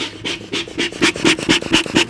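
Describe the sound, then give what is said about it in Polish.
Quick, steady puffs of air pumped into a beekeeper's smoker to get it burning, about nine breathy bursts in a regular rhythm, moderately loud, with no talking. “Rozpalam podkurze, dmuchem, żeby się rozpalił.”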